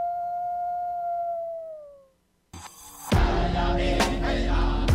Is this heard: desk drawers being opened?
no